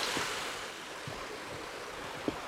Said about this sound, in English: Well, as if this wasn't pretty enough. Nice little waterfall, quite small, surprisingly loud. Just to a nice little brook, and now I'm just following the brook down.